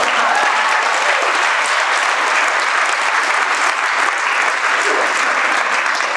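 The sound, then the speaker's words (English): An audience claps steadily for several seconds, a dense, loud, even wash of many hands with no talking over it. “And I don't say that for a clap.”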